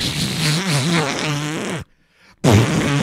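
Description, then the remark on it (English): A loud fart sound effect: a long, wobbling, buzzy blast lasting almost two seconds, a brief silence, then a second rasping burst. “A fart noise is what they... No, fart noise isn't going to draw money.”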